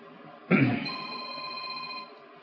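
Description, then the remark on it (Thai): A telephone rings once, a bright sustained electronic tone that starts abruptly and holds steady for about a second and a half before cutting off, with faint background noise. “มีโทรศัพท์มานะ”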